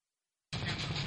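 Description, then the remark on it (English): After a brief silence, a loud engine noise bursts in with a rough, pulsing low rumble, like a truck engine cranking over as a driver tries to start it. “The truck wants to start.”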